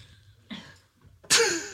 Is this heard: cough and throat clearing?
yes